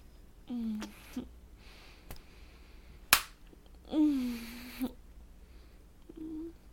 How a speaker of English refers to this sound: Keep slapping me with your cock in my mouth.